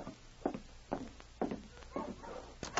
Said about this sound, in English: Hey, listen. Dogs. Yes. Wonder who it can be. I'll take a look.